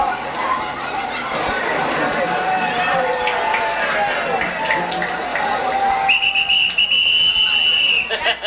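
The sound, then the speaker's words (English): Shrill whistle blasts from a man in a noisy crowd, one shorter toot midway and then a long, piercing sustained blow near the end, with people chattering throughout. “That guy with that whistle doesn't it out.”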